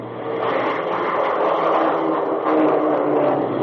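A B-47 jet bomber's engines roar steadily through its takeoff run in the dark dawn hour, watched from the apron under floodlights: a loud, dense, unbroken rumble with a low droning hum beneath, rising slightly in intensity toward the end. No voices.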